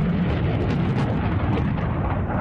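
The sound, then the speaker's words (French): A launch of American-made HIMARS missiles from a truck-mounted launcher brought from Wisconsin roars continuously, a deafening, dense rumble with a heavy low end and a hissing upper edge, leaving a smoke trail. It holds steady and unbroken throughout, with no voices. “Tous n'attendent désormais qu'une chose, le lancement des missiles HIMARS.”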